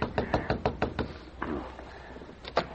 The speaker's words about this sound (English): Frenchy quickly made his way to Nick's cabin and tapped on the door.